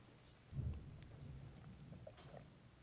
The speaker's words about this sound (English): And I've had this thunder rolling in the background for effect. I hope you don't mind that. Might even have some rain outside to go with it if everything works out.